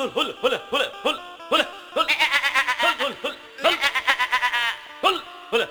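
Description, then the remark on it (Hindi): A goat being taken away by a goat seller bleats again and again, its loud, quavering cries coming in quick succession, with a few longer wavering calls running together in the middle. “देखा हुआ बकरिया वाला ले ले जाता बकरी।”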